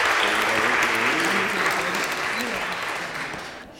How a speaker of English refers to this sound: So can you give them a bit of a round of applause? And let's start off here.